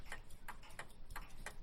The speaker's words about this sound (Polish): Jak słyszycie, to jest zegar wahadłowy, 12-centymetrowe wahadło, malutkie, bo to jest zegar kominkowy, tak jak mówiłem.